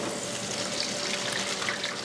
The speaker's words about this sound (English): That's breaded chicken frying in deep fat in a small cafe off Highway 89 where Utah and Arizona meet.